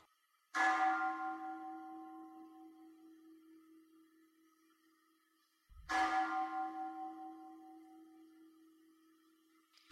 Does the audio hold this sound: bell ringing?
yes